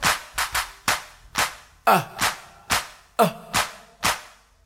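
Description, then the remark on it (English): Sharp hand claps ring out about eleven times in a loose, steady rhythm, each one crisp and bright, with a brief voiced sound slipping in between a couple of them. “Clap your hands like this.”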